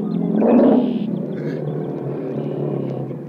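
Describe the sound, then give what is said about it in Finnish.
A lion, Numa, roars, a deep rumbling bellow that swells loudly in the first second, then trails off into a sustained low growl, with no voices. “Leijonan karjahdus.”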